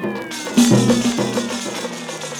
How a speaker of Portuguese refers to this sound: Um gato. Outro gato. Mais um gato.